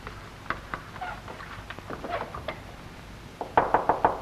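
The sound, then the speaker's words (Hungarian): Knocking on the door of a rented flat: some scattered light taps and bumps, then a clear run of four quick, evenly spaced knocks near the end, fairly firm, with no one talking. “de ettől függetlenül tessék kopogni, hogyha a bérleményem küszöbét átlépi.”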